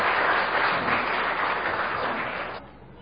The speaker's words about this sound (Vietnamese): Chúa chúc lành cho anh chị, xin dâng lên Chúa mẹ một tràng pháo tay.